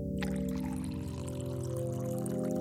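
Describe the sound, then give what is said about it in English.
Hot water pours steadily for a few seconds into a coffee mug holding instant coffee grounds, continuous, its hollow gurgling tone rising slightly as the mug fills. No voices. “As the hot water mixed with the hastily scooped instant coffee grounds at the bottom of the mug, their powers combined to create a cup of much-needed caffeine.”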